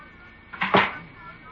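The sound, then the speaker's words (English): A single dressing-room door swings shut with a short, muffled thump and clatter, moderately loud, then quiet room tone follows. “Close the door.”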